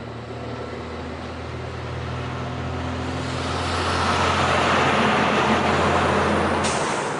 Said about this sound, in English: Fracking trucks drive night and day down the main strips of tiny American towns.